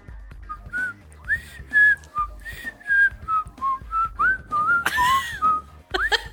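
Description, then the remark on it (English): Someone whistles the theme tune of The Andy Griffith Show, a bouncy melody of short, sliding notes that carries on steadily, briefly broken by a breathy burst near the end. No talking. “Now you can whistle it for 5 day points if you want.”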